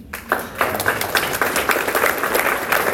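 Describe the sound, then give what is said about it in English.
An audience applauds a person who helps with a ballot signature initiative, a steady, dense crackling wash of many overlapping hand claps at moderate loudness, holding an even level for a few seconds with no talking. “One other person I would like to applaud is right here”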